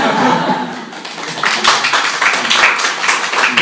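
A church audience claps in thanks to a pastor, a dense, steady wash of applause that swells louder midway, with a few scattered voices and chuckles mixed in.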